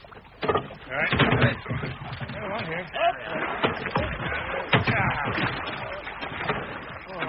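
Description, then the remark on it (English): Barrels being loaded onto a boat at a riverbank: a busy run of heavy wooden thuds, knocks and scrapes at an irregular pace, with muffled voices underneath. “Let's get them on board then.”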